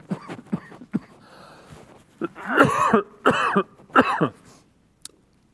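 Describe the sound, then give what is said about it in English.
A speaker in a studio has a harsh coughing fit during a sermon: a cluster of short hacking coughs, then three loud, rasping bursts in quick succession before it trails into quiet. No one speaks. “I'm being given water and cough drops. Studio, I'm really sorry, but I can't help this.”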